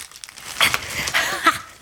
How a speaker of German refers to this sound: Und jetzt ganz vorsichtig die Zeitung zurückziehen.